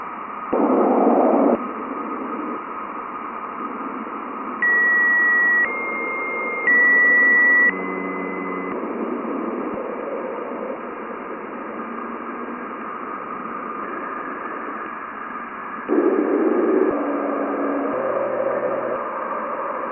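A plasma wave recording from the Juno spacecraft: a steady hiss of radio-like static with brief whistling tones near the middle and a couple of louder, buzzy low bursts, faintly modem-like, with no voices.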